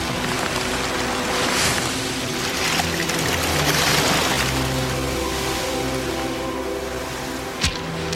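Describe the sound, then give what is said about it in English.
Ocean water washes over pebbles and rocks in steady, hissing surges that rise and fall, over a constant low rumble, with a single sharp knock near the end. “Ocean water washes over pebbles and rocks.”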